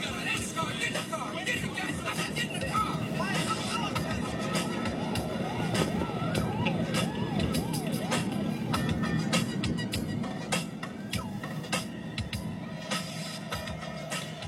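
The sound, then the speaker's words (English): Two garbage trucks idle in an alley, a loud, steady diesel rumble layered with wavering mechanical squeals, creaks and sharp clanks throughout. “Two garbage trucks stopped in the alley.”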